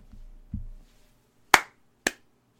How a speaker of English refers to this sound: You know what? Another round of applause for that one